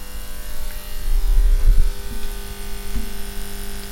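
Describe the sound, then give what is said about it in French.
A worn, faded neon sign buzzes with a steady electrical hum, broken by irregular crackling bursts and pops, loudest in the middle. No one speaks. “L'enseigne de néon, même si elle réussit à faire le travail, est plutôt défraîchie elle aussi. Puis elle grésille tellement fort que ça empêcherait probablement les voisins de dormir, s'il y en avait.”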